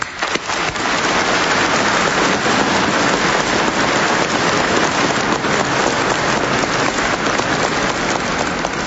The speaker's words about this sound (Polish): Proszę, aby wszyscy tutaj zgromadzeni dorośli powitali dzieci oklaskami.